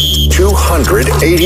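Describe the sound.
A loud, steady electronic game buzzer tone sounds for a split second at the start of a 'beat the buzzer' round, then cuts off as a voice begins talking over faint background noise.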